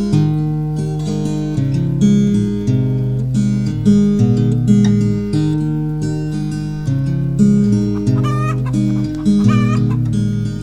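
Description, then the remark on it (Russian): A hen clucks steadily, a continuous run of repeated, throaty calls that keep a fairly even loudness throughout, with no one talking. “Курочка в чудесном новом гнездышке своем, а когда закат над лесом разольется киселем, и как всегда завесит глазки поволокой голубой, на ночь солнечные сказки прокудахчет нам с тобой.”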